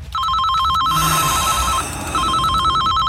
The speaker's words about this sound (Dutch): Alweer die telefoon.